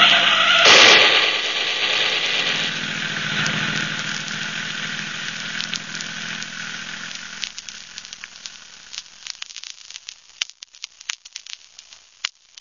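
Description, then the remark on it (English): A loud burst kicks off the roaring engine of a speeding car that rushes past and gradually fades, followed by scattered sharp cracks and pops of gunshots as the noise thins out. “Listen, what's that? Somebody in a big hurry.”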